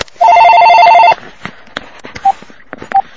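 An electronic house telephone ringing with an incoming call: a loud, rapid warbling trill lasting about a second, followed by two short, softer beeps against a quiet background.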